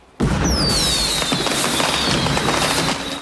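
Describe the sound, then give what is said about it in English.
A dense barrage of fireworks over a harbour at night, including Roman candles, crackling and booming continuously, with whistling rockets streaking upward, loud and sustained, with no voices. “Fireworks go off in the harbour, illuminating the night sky.”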